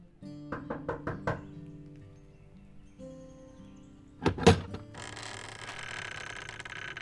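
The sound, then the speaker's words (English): Five quick, even knocks rap on a wooden front door at an address in Collinsville, Illinois, followed a few seconds later by a heavier thud and a rush of hissing, rustling noise as the door seems to swing open, an elderly woman opening it. “When she knocked, an elderly woman opened the door.”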